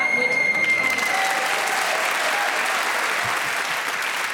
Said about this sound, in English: You were speaking as the whistle went, which means you gain the point.